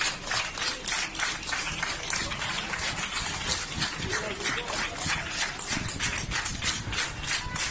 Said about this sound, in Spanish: Son los aplausos de los empleados de un hotel de Mallorca a la llegada de los primeros turistas alemanes a la isla tras el comienzo del estado de alarma.